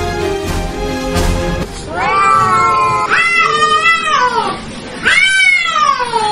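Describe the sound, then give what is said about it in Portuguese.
Several cats yowl and caterwaul on a roof in long, wavering cries, three drawn-out howls following a couple of sharp bangs at the start, loud with no talking. “É gato viçando aqui em cima do telhado aqui?”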